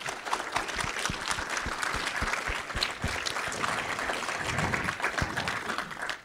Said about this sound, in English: Can we have a huge round of applause for our panel?